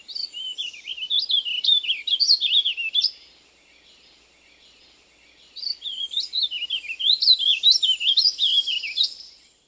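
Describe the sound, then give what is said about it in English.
A warbling vireo sings two long, rambling phrases of rapid, looping warbles, loud, separated by a brief pause with no other sounds. “And since the bird usually stays high in the trees, the warbling vireo is often difficult to locate and identify until it sings. The loud warbling song is very distinctive.”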